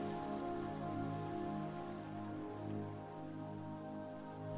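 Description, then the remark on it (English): A steady wash of ocean waves hisses continuously beneath a sustained, humming musical drone, the whole texture smooth and even with only a gentle dip in loudness and no voices. “You have all the time you need to enjoy this experience and let yourself relax completely as you just listen to the sound of the ocean waves.”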